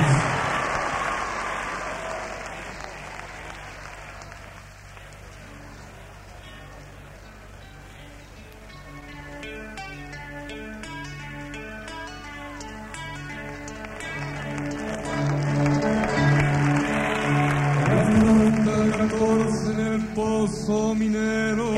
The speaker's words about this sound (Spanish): Una canción de finales de los 60 y que ha despertado todos esos aplausos y gran cantidad de bengalas de nuevo.